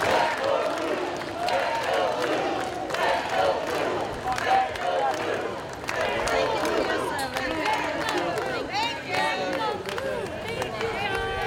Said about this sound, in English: Yeah, so as you can see, a ton of energy, a ton of excitement. Every time police officers went by, everyone was shouting and cheering for them.